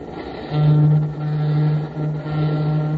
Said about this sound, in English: Hear that streamliner hoot out hello as she speeds across the country?